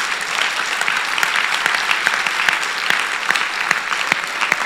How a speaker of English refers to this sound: 6 members in the upper room. Look at us. 6 has become 6,000. It's a good place to clap your hands.